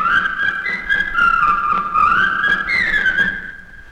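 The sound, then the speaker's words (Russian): In Johannesburg in 1967, Major Müller whistles the march of the Belgian skull-hunter cutthroats: a brisk, martial tune, the melody rising and falling in clear sustained notes for several seconds, fairly loud with no talking over it. “Он снова насвистывает марш бельгийских головорезов-охотников за черепами.”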